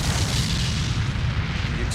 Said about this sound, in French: L'explosion à bord du Kursk est si puissante, on parle quand même de plusieurs tonnes de TNT, qu'elle est captée par des appareils sismiques de certains pays. L'onde de choc est mille fois plus forte que la première explosion.